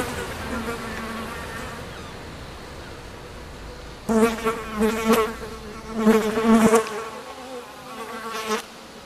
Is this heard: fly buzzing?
yes